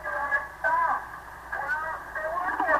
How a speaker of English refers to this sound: There's too much static.